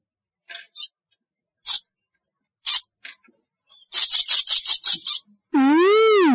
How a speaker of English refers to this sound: Ooh, hello, bird. What's your name? Tweet, tweet. Hi, tweet, tweet.